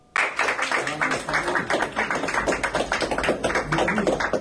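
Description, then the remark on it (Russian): A gathered crowd applauds as bailiffs of the Leninsky Court in Saint Petersburg lead an 18-year-old street singer out after a court hearing, with dense, steady clapping that starts abruptly and keeps up at a fairly even loudness for a few seconds, with many overlapping sharp claps. “Под аплодисменты собравшиеся приставы Ленинского суда Санкт-Петербурга вывели после заседания 18-летнюю уличную певицу”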